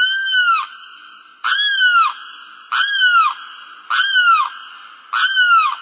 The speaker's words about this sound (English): It's a wading bird called a limpkin, tall, brown, long-beaked. Its eerie cry is unmistakable.